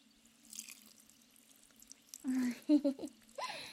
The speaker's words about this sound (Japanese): さて、最後に普通の水で流すからの。行くぞ。